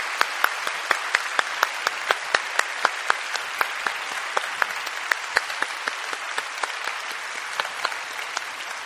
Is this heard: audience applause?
yes